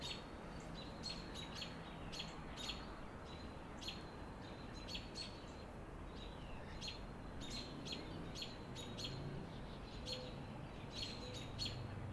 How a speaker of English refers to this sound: It's really good. We're getting some really good bird action.